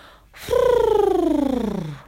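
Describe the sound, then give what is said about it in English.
A single voiced trill, a rolled R made with puffed cheeks to sound like turtle doves, a rapid buzzing flutter that starts fairly high and glides steadily down in pitch over about a second and a half, loud and on its own. “Remember, it's an R with puffy cheeks over it, which becomes this.”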